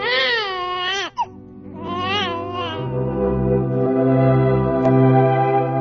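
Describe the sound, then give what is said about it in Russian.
A newborn baby, the child just born to Elizabeth in a telling of the Bible story, wails in two loud bursts of high, quavering crying, separated by a brief gasp, then the cry fades into a low, steady sustained hum. “Она прожила у нее 3 месяца, до того дня, когда Елизавета родила ребенка.”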